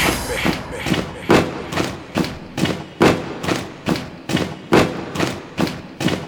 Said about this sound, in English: Stomp with me.